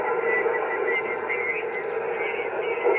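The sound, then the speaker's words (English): A ham radio transmission from a station in South Texas crackles through static, a thin, garbled voice fading in and out for a few seconds at steady, moderate loudness, with no clear words getting through. “It's breaking up again.”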